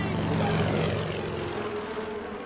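A propeller biplane drones overhead as it flies over Lake Malta at an air show marking the 90th anniversary of the Poznań Aero Club, a steady, loud buzzing engine tone that holds throughout, its pitch gently shifting as it passes.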